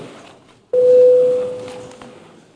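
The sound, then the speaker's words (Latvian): A single steady electronic bell tone sounds abruptly in a parliament session as deputies call for a vote, holding one pitch for under a second before fading, over a murmur of background noise. “Deputāti vēlas balsojumu. Lūdzu zvanu.”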